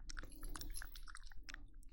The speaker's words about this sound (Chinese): 啊，狗舌头吸溜吸溜的，舔得真起劲儿呢。